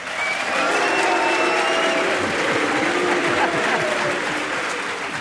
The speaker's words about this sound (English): We're definitely putting a disclaimer on the website. Explaining that that's people saying my name. Mm-hmm. Not booing.